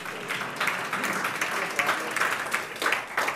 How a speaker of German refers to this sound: Es haben auch schon Leute geklatscht, ist okay.